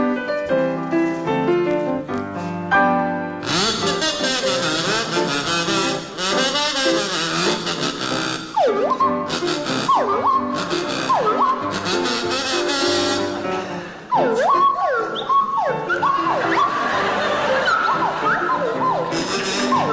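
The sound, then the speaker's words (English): A buzzy kazoo played by Willie Rushton and a swooping swanee whistle played by Jeremy Hardy play a bouncy tune together, the whistle sliding up and down in loud glides over a steady musical accompaniment. “it's to feature Willie Rushton on kazoo and Jeremy Hardy on the Swanee Whistle.”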